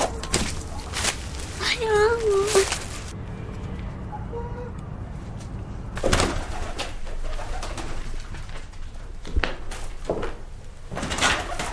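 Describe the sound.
Pigeons coo in short warbling bursts near the start in an attic as someone chases them, with scattered fluttering and knocking noises throughout and a faint murmur of voices in the background.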